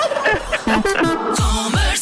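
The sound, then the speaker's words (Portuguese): A turkey gobbles loudly, a rapid burbling warble broken into several quick bursts with a few dropping, throaty notes near the end, with no talking. “É fresquinho, mas pelo menos não falta peru nessa consoada.”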